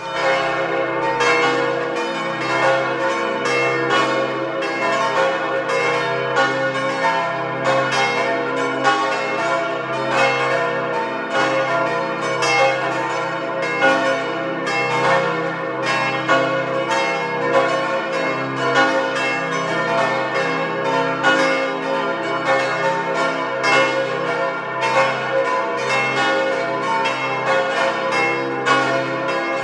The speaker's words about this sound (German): Es ist 12 Uhr. Sie hören die Glocken der Pfarrkirche zum heiligen Nikolaus in Elbigenalb im Tiroler Außerfern.